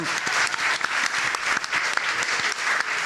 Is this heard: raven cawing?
no